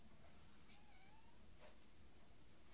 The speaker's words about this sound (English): Hello. She's saying meow. Meow.